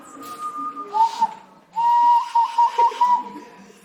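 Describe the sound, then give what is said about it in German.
A person whistles through pursed lips: a steady mid-pitched tone, a short break, then a longer wavering whistle with slight pitch dips, alone without talk. “Du musst nur deine Lippen spitzen und durchpfeifen.”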